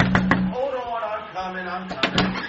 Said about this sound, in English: Okay, so how should I knock? Oh, I'll show you. Please, open up! Hold on, I'm coming.